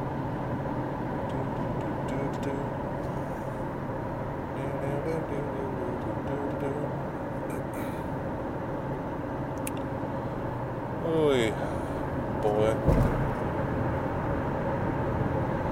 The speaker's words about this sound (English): So I'm driving very slow. I'm actually going the speed limit on a highway, which I'm sure is going to piss off a lot of cars behind me.